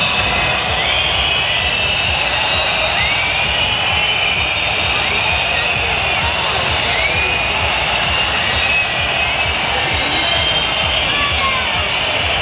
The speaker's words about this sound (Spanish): Sonora pitada al presidente Sánchez, que ha contrastado con los aplausos a los reyes.